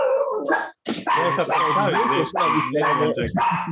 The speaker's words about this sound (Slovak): A ešte tu máme aj psa. Je to Pálko?